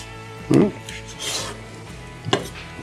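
A sharp knife slices the belly flap (tesha) off a fish in two short, scraping strokes, with a softer rasping drag between them. No one speaks.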